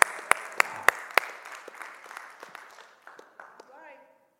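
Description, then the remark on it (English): A church audience claps hands during a sermon, starting with four loud, evenly spaced claps that spread into scattered applause and crowd murmur, fading out as a voice begins speaking at the end. “Now you better clap your hands right about here.”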